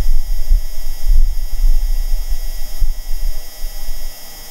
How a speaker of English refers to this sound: This is the raw sound of Martian wind, captured by NASA's Perseverance. But wait, hear that mechanical hum? That is actually Perseverance's self-noise.